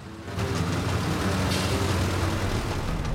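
A red bus with cream panels, the Blauer Vogel Expresso service number 78 to Zürich, rumbles along a road, its low engine drone and tonal hum steady beneath a broad wash of road noise that swells in after a moment and holds constant, with no voices.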